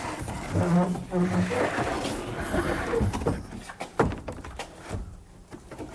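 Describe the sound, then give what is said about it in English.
A tiger-like roar rumbles loudly for a couple of seconds, followed by knocks, thuds and rustling handling noises. “It's an animal that lives in the jungle, and it has orange and black stripes.”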